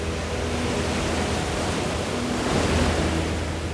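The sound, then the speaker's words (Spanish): Steady roar of sea waves breaking at the foot of a cliff at sunset, a dense wash of surf filling the whole clip, with a slightly stronger surge near the end and a hint of wind. No voices. “Con un rictus de amargura en su rostro, mira fijamente el rompiente de las olas bajo sus pies.”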